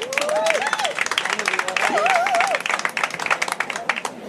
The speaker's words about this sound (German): Applaus!